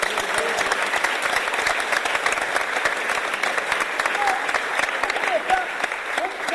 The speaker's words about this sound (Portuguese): Então a gente aprendeu muita coisa com esses sambistas que estão aqui hoje presentes. Então, pra gente receber direito, uma salva de palmas direito.